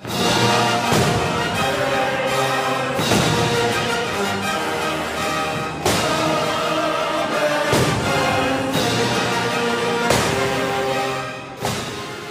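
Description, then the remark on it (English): Loud, sustained orchestral music from an outdoor concert on the Esplanade in Boston over the 4th of July weekend, with sharp fireworks booms bursting through it every couple of seconds, each a sudden broad crack layered over the swelling instruments. “But music and fireworks weren't the only sounds echoing through the streets over the weekend.”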